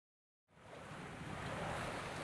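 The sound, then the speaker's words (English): After a brief silence, a loud, steady rush of water and wind surges in as a racing boat speeds through ocean waves, the roar building slightly and holding with no voices. “Wow, that boat's fast. Not as fast as the American boat. Look at it go.”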